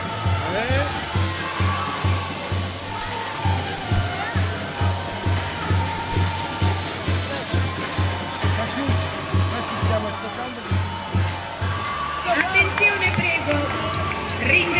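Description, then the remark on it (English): A crowd claps steadily in a regular rhythm, with a loud, dense wash of cheering and voices throughout, over a low constant hum; the noise swells slightly near the end. “applaudiamo quando parliamo.”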